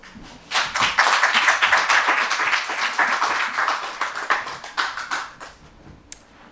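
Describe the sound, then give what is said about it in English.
An audience claps steadily for several seconds, a dense wash of hand claps that swells quickly and then thins out, ending with a few scattered claps. “Clap.”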